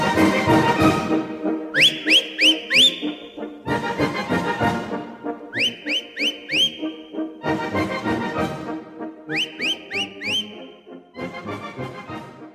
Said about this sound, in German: Das Pfeifen eben in diesem Lied, das kommt von …. …, ein Berliner Original